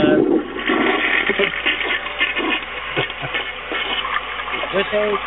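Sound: toilet flush sound effect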